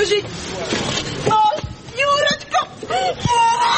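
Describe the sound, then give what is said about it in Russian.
Mothers, girlfriends and relatives of people shot by snipers on the Maidan in Ukraine wail and cry out in anguish, their voices rising and breaking in long, wavering moans over a noisy crowd murmur, loud throughout. “Крики матерей, девушек, родственников.”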